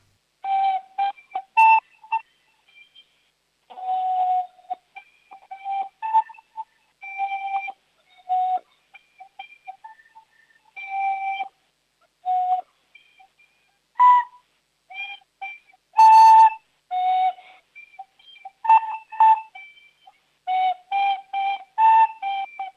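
A child plays a simple tune on a flute, a run of clear, breathy high notes in short phrases separated by brief pauses, with no talking.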